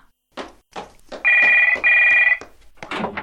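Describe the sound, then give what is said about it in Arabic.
A telephone bell rings in two loud, steady, bright bursts with a short gap between them, set amid brief muffled speech-like sounds before and after. “وقبل أن ينام سمع جرس التليفون يرن.”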